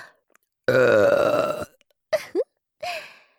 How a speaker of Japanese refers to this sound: 下品で音の大きい生ゲップ。これ、このゲップを待ってたんですよね。